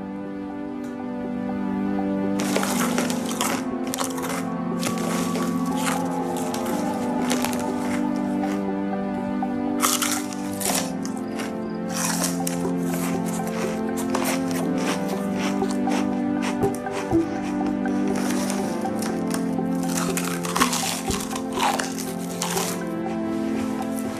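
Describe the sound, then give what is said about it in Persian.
Loud, irregular crunching of potato chips, sharp crackly bursts that come in quick clusters with short pauses, running over a steady humming, tonal background. “چیپس میخوای؟”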